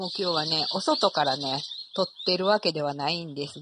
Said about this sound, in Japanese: 鳥の声を聞いていただきながら